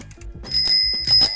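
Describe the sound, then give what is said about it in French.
A bicycle bell rings twice in quick succession, bright metallic chimes with a shimmering ring that lingers briefly, fairly loud, over some low background clatter. “le vélo, ça, pas de problème.”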